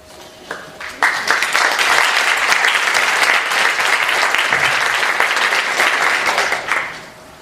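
An audience breaks into steady applause, a dense crackle of many hands clapping that swells quickly, holds loud for several seconds, then tapers off at the end.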